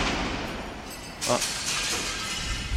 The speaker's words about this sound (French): Ah mais l'hôpital est vraiment abandonné. Là, on entend une fenêtre qui claque et des carreaux qui viennent de péter.